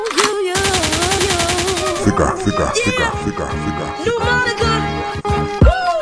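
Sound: gunshot sound effect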